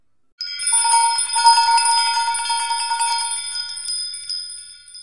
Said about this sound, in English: An old bell in the corner starts to swing. The bell is swinging. Why? Now it's ringing. What's happening? All the bells in the house ring loudly.